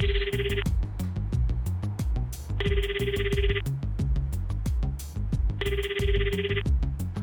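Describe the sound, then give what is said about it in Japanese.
A phone rings out three times on an outgoing call, in steady, evenly spaced bursts, each a buzzy electronic trill lasting about a second, heard over a busy rhythmic music bed with no talking. “そして再び電話をかける。”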